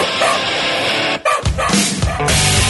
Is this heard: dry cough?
no